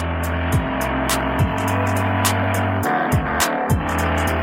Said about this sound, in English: Jake, with keys in his hand, turns on the car and steps on the gas, leaving no time for seatbelts.